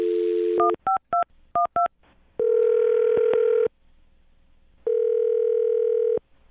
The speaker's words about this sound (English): Well, we'll find out right now. I'm going to dial his phone number, okay? Okay. All right, here we go.